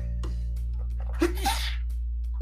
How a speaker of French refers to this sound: J'ai éternué.